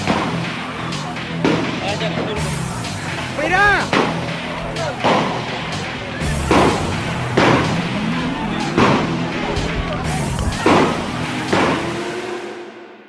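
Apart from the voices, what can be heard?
gunshots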